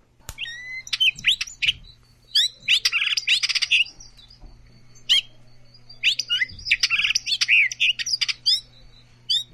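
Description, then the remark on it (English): A hooded oriole sings a busy jumble of whistles, warbles and chattering notes in two energetic bursts, high-pitched and fairly loud, with a faint steady hum underneath and no talking. “Their song sounds like a series of whistles, barbles, and chatters.”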